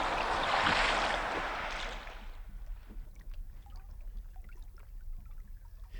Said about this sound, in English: The men are rowing ashore now, full of hope for the future.